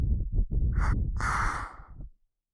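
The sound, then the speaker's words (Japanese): Soft, breathy puffs of air blown into the ear to tickle it, a short one followed by a longer, steady exhale, intimate and airy with no talking. “こんな小さい女の子に吐息でお耳をくすぐられるの大好きなんですか？”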